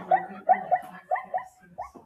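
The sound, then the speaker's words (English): Zebra calls of the savannah: a quick run of about six short, yelping barks in uneven rhythm, moderately loud, with no talking. “Zebras.”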